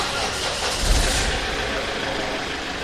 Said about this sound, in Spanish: Él es quien arranca el motor de una ambulancia reutilizada en la que nos montamos.